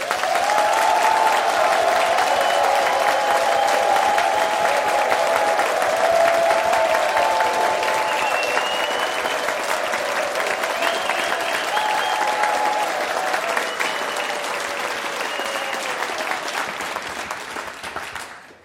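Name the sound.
audience applause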